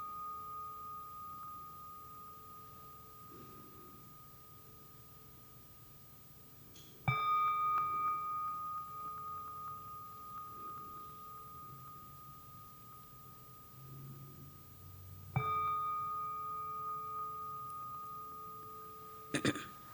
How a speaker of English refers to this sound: As the sound of the gong fades away, be aware of your surrounding, feel the energy of the space,